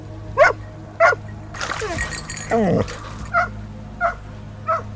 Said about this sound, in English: Barking at the water.